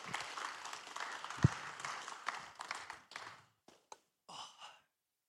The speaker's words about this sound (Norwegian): Skal vi gi dem en skikkelig applaus når de kommer opp.